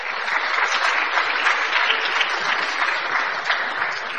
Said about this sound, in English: We just give an applause of thank you to our worship team and sound guys.